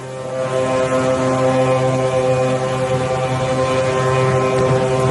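A deep, steady mechanical drone of a large ship at the launch of the Chinese navy's second aircraft carrier, built entirely in Chinese shipyards, at Dalian, China. Its low engine hum and layered tones hold constant and loud throughout, with a faint wind-like hiss and no talking.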